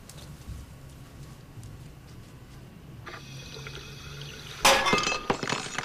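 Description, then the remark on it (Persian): Faint clinks and a steady hiss give way to a sudden loud crash of a dish shattering, followed by bright, scattered tinkling of pieces settling. “چی شد باز؟ چی؟ شکست؟”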